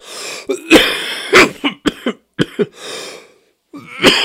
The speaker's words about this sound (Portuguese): Eu quero pedir humildemente desculpa, gente. Ah, mas hoje agora ficou difícil, né? A tosse pegou mesmo, desculpa, tá?